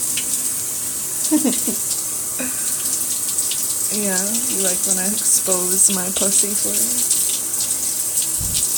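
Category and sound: household object, shower water running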